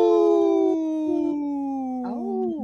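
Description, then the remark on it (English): A single long, loud howl from a comedian imitating a wolf on Native Roots Radio, starting high and sliding slowly downward, with a brief wavering rise near the end before it fades. “Okay, we had one of the comedians howl,”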